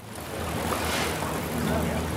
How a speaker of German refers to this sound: In Tübingen gibt es ein paar zentrale Straßen, die stark befahren sind. Und jeder kennt den Krach, der ununterbrochen durch Dahinbrausen der Autos und LKWs gemacht wird.